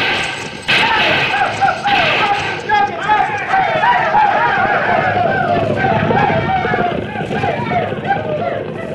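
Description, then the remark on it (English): A loud, continuous rumble of a cattle herd stampeding fast toward the listener, pounding hooves mixed with a chorus of bellowing and lowing that never lets up. “Stampeding cattle, I would say. Coming this way fast.”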